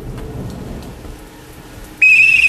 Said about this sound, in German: Ein Blitz zuckte. Es fing an zu regnen.